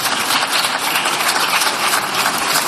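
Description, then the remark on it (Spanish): A crowd in the Congreso chamber gives lukewarm applause after the final approval of the new animal welfare law: an even, dense patter of many hands clapping at a steady moderate level, never swelling or building, with no voices. “Bueno, el aplauso, como escuchas, no es que derroche precisamente entusiasmo.”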